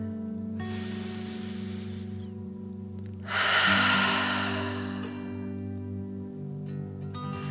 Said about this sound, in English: let's relax with 3 deep dragon breaths. Breathe in through your nose, filling up your belly, and then out through your mouth, imagining you are breathing fire. Ready? Deep breath in and out.